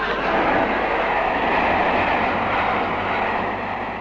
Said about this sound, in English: Bring back the train!